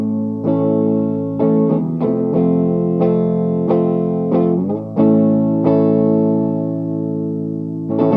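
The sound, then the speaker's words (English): Electric guitar with Tim Shaw pickups and a mahogany body, played on the neck pickup, strumming a series of warm, full chords that ring out with sustain and a touch of effects, played steadily and fairly loud with no voices. “Should I go as necky as I can?”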